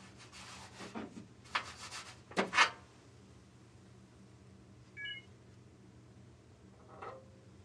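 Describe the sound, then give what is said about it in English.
Rustling, scraping handling noises as a phone is set into a cart holder, a sharper knock, then quiet before a brief two-tone electronic beep and a soft click as a switch is clicked on, starting VoiceOver. No one speaks. “So here you go, putting the phone in the cart, get good audio, and clicking on the switch.”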